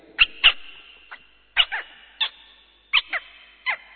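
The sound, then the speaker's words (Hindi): A voice mimics a sparrow's chirping, one of a series of animal and bird sound imitations, with short, sharp, high-pitched chirps, some in quick pairs, spaced irregularly with no other sound. “एक वंडरफुल आवाज लास्ट में निकालेंगे तो पहचानेंगे आप, लेकिन कुछ इंस्ट्रूमेंट के आवाज, कुछ पशुओं के और कुछ पंछियों के आवाज आपके सामने प्रस्तुत करेंगे, जैसे चिड़िया।”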